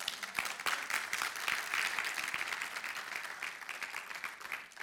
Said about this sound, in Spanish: ¿Quién le da un fuerte aplauso al Señor?